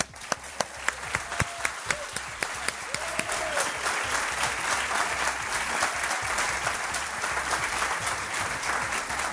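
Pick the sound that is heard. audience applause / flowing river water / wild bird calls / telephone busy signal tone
audience applause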